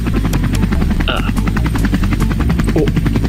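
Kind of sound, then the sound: vehicle, helicopter rotor noise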